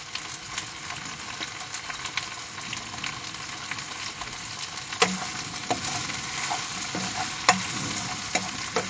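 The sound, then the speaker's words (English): Steady sizzling of onion, spring onion, red pepper, ginger, mushrooms and broad beans frying in a pan, with intermittent scraping and clinking as they are stirred with a utensil, without any talking. “I'll just get that sizzling a little bit.”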